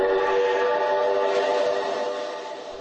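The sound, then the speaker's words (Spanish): A loud, sustained train whistle blows continuously, its rich layered tone steady throughout and fading slightly toward the end, with no talking. “Según indicó el realizador de teatro Maciej Forman, la estación de ferrocarril y los trenes evocan un permanente movimiento y un lugar donde se cruzan y entrelazan los destinos de muchas personas.”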